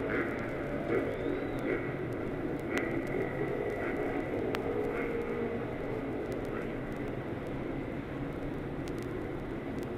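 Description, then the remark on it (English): A dense, steady roar of many race car engines, including those of Roger Ward and Jim Clark, fills the scene, loud and continuous, with a faint whining tone riding above the rumble as the first four rows pull away together behind the pace car toward the number one turn. “The field is gathering behind the pace car now, the number one turn. All of the first four rows are away.”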